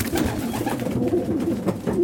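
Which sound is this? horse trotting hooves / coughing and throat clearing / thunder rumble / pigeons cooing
pigeons cooing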